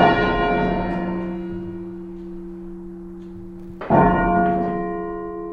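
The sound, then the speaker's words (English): Half-muffled church bells in Redhill ring out with two strikes a few seconds apart, each a rich metallic tone with a long humming decay. A thick leather pad on one side of the clapper makes one stroke open and the next muffled. No voices are heard. “So we get one stroke sounds loud or open, and then the muffled one is like an echo.”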